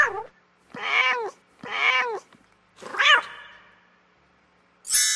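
A cat meows four times in quick succession, loud and close, each call rising then falling; the last stretches into a longer wail before a brief sharp noise at the end.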